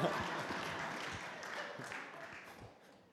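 One person clapping at the idea of a weekly movie night, at Adult and Teen Challenge Society of British Columbia, in a quick, somewhat uneven series of sharp, bright claps over about three seconds, fairly soft and fading slightly toward the end, with a faint murmur of background noise.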